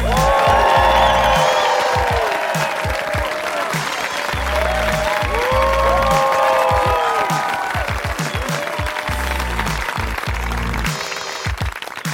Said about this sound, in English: Thank y'all. It takes me a minute to get to the stage, so people got to clap extra long. So thank y'all.